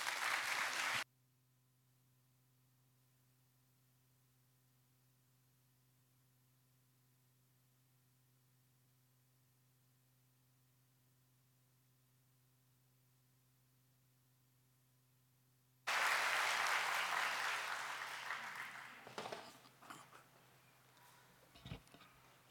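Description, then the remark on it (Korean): An audience at a worship service claps briefly, then a long hush with only a low electrical hum, before a loud, dense round of applause erupts to welcome Pastor Park Ok-soo to preach, gradually thinning out toward the end. “여러분 박수로 맞아주시기 바랍니다.”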